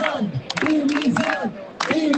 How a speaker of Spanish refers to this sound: Se han pedido dimisiones en la Junta, se han escuchado gritos contra el presidente Mañueco, el consejero de Medio Ambiente y sus directores generales.